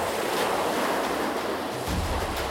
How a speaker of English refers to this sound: But the waves were getting strong and kept breaking against the side of the ship. Water was flying across the deck, and it was hard to see anything at all.